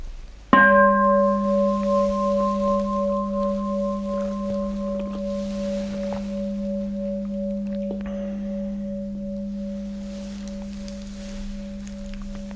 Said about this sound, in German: Ja, dann hören wir nochmal einen Gong und dann kommt zum Abschluss noch so der letzte Tipp zum Nichtstun.